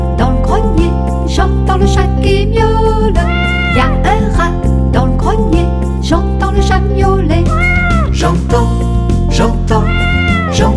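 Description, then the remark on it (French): Repeated meowing cries rise and fall over a loud, steady musical backing, several drawn-out meows following one another through the whole stretch. “Y a un rat dans le grenier, j'entends le chat qui miaule.”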